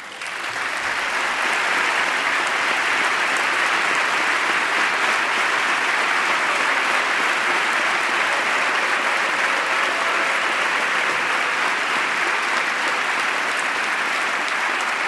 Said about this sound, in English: Many members rising to applaud that reference.